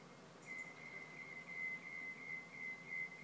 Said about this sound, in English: They're working on something across the street, I think. And I've been hearing this for the past 10 minutes, all this beeping, so I figured I'd record it.